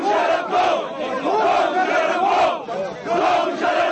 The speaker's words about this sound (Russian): Перед прилетом Шарифа в Исламабад аэропорт окружила толпа сторонников бывшего премьера, скандировавшая лозунги с призывами к смещению президента Первеза Мушарафа.